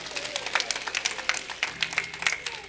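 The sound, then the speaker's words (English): A church audience claps steadily as a hand of praise to the Lord at the end of a sermon, dense overlapping handclaps forming a continuous bright patter with frequent sharper individual claps standing out, moderately loud throughout. “Give the Lord a hand of praise if you will.”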